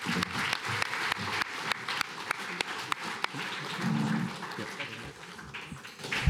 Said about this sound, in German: Vielen Dank euch beiden und für euch auch noch einmal einen Applaus.